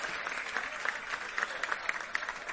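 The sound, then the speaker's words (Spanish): An audience at the Feria del Bonito in the municipality of Pájara applauds steadily, a dense patter of many hands clapping with scattered sharper claps rising above the wash, moderately loud and continuous throughout. “Yo creo que deberíamos darle un fuerte aplauso porque se lo merece”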